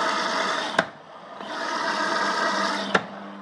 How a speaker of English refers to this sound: And hey, this washing machine thing is very noisy, look.